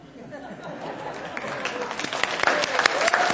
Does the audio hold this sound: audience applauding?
yes